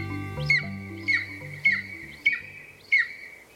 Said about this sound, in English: The golden eagle is a bird of epic proportions, not only for their impressive size, but also for the many legends they've inspired across human history. They're one of the largest eagles in the world, with a wingspan of more than 7 feet.